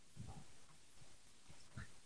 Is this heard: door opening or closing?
no